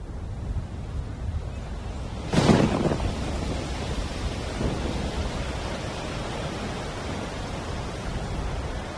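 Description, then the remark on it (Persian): Steady rain hisses throughout a thunderstorm, broken by one loud, sudden thunderclap that rumbles and fades over a couple of seconds before the downpour continues alone. “ابر و رعد و برق بی سابقه‌ای آسمان را پوشاند و باران شروع به باد.”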